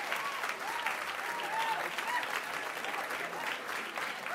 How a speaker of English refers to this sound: There's Lauren. She's coming down there, so we'll have a second wave of applause for Lauren as she makes her way up to the stage.